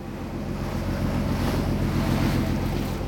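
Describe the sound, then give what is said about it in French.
Steady sea waves wash and churn around a fishing boat leaving the shore of Port Blair, with a low engine rumble and wind buffeting the microphone throughout; no one speaks. “Alors qu'il quitte le rivage de Port Blair, embarqué dans un bateau de pêche, il écrit dans son journal.”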